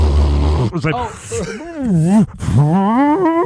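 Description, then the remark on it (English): A voice imitates air rushing in from a CPAP mask after its little button is pressed: a loud, wavering groan that rises and falls in pitch over about three seconds, with a brief breathy break midway. “I remember the first time I put it on and I pressed the little button and the air comes in and it's like.”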